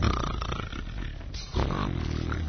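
Loud, rasping snoring, one long rough snore fading out and then a second harsh, rattling snore starting right after, with no talking.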